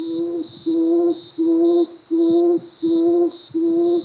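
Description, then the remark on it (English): A tawny frogmouth, an owl-like bird with grey and white feathers perched on a branch, calls six times in a steady, evenly spaced rhythm, each call a sustained low tone lasting about half a second, with a constant high-pitched hiss or insect-like drone running underneath. “It looks like an owl.”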